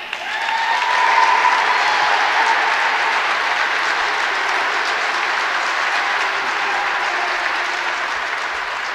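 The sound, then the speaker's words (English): A large Trump-friendly crowd applauds steadily after Donald Trump announces the 1776 Commission to promote patriotic education, a dense, sustained wash of clapping that swells slightly early on and then holds at a loud, even level with no speech. “And the Trump-friendly crowd loved it and were obviously moved by the mention of 1776, which, of course, he rolls out in contrast to 1619.”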